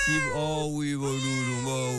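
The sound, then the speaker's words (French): A cat gives one long, drawn-out meow, its pitch wavering and dipping before settling into a steady, insistent tone that lasts about two seconds. “Allez, va manger des croquettes.”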